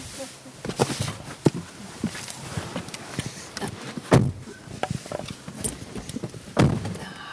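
A dark blue front door being shut as two people go back inside, in drizzle: a run of scattered knocks and shuffling handling noises, with a heavy thud about midway and another solid thump near the end.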